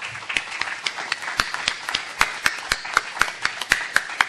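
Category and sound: crowd, applause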